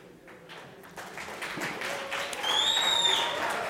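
An audience applauds a volunteer, a dense crackle of many hands clapping that grows louder over a few seconds, with a short, high whistle cutting through near the end.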